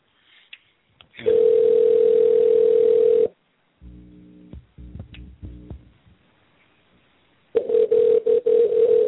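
A steady telephone dial tone drones for about two seconds, followed by a quick series of dialing beeps and clicks as a phone call to a guest is placed, then the dial tone returns with brief interruptions near the end.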